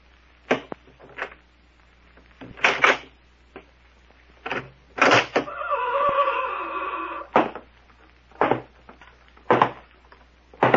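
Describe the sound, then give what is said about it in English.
A door is worked open and shut, with a string of sharp knocks and clunks and a drawn-out creaking grind in the middle, with no voices. “Now, when I shut the door behind him, we take him”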